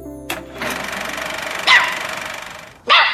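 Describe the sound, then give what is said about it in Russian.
A dog barks aggressively, a few sharp, loud barks spaced irregularly with rough, growling noise filling the gaps between them. No one speaks. “Какая агрессивная собака.”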